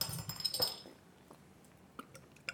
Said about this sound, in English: That's Rog pouring his into a glass.